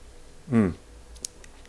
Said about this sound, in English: I'm drinking it in a high glass, a high round glass, which is a Korsendonk glass. It's the best glass for this type of triple. And of course, I poured it in just as I should do it. Perfect. Just a little sip.